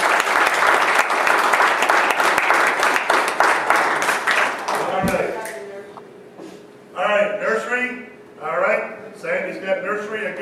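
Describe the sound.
A crowd claps loudly and steadily for about five seconds, then the applause fades out and a man begins speaking in short bursts.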